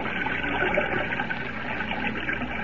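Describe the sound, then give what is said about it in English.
Steady, full rushing of a river flowing above ground beyond falls, with churning splashes as someone wades through the current; no voices, just the continuous wash of the current. “Evidently, this river does flow above ground beyond the falls.”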